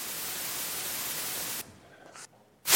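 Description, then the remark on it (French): Loud, steady white noise, the same segment repeated three times, hisses for over a second, then cuts to a much fainter, patchy hiss before the full noise bursts back in at the very end. No voices. “c'est du bruit blanc, mais c'est un peu particulier puisqu'on répète la même chose trois fois”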